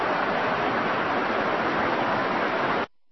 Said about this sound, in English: Yeah, it sounds like water, but it's not. It's effluent.